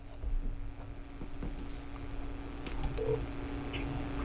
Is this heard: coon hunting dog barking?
no